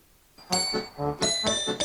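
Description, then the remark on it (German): Several clocks in a clock shop chime together, bright metallic bell tones striking in quick, overlapping succession, their high ringing partials sustaining between strikes, with no voices. “Uhren, mehrere Uhren.”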